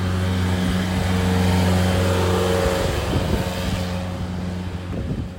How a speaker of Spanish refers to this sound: Wow, está la pura embarrada. Hay demasiados autos.